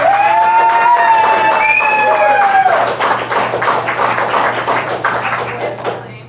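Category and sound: crowd, audience clapping to vote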